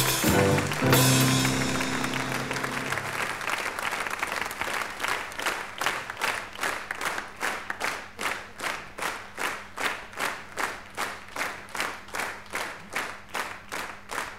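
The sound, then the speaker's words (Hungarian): A large audience applauds loudly, the scattered clapping soon settling into steady, unified rhythmic claps that continue evenly to the end, with no voices over it. “Bocsánat, ahogy önök tapsolnak, az az érzésem, hogy kíváncsiak, hogy még mit tudok, igaz?”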